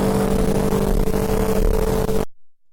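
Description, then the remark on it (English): Loud, steady street traffic with a broad engine rumble and a vehicle revving as it passes, continuous for about two seconds before cutting off abruptly into silence. “And I hope you could hear most of this, because I know the traffic's loud.”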